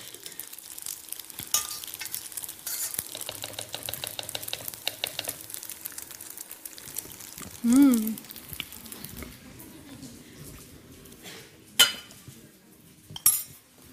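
A spoon scrapes and clinks against a pot as food is scooped out of the pot into another container, with wet shuffling sounds, a few sharper knocks, and a brief murmur of a voice.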